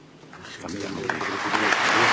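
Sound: parliament applause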